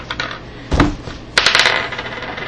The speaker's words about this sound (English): I need to get out my dice.